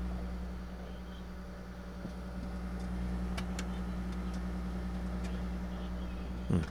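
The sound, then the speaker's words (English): Bacon cooks between two pieces of paper towel on a plate in a microwave oven: a steady low electric hum runs throughout, with scattered faint pops and crackles breaking through now and then. No one speaks. “Oh, and you can hear the bacon cooking.”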